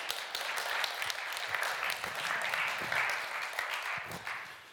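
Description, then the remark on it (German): An audience claps steadily for about five seconds, a dense, even wash of many hands with no pause, fading slightly at the end. No one speaks. “Ihr dürft immer klatschen, immer.”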